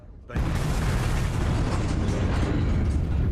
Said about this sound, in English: At approximately 10:20, Piper Alpha is rocked by a massive explosion when burning oil causes the rupture of the Tartan riser, the pipeline bringing gas from the Tartan platform. It is the start of a massive and prolonged high-pressure gas fire.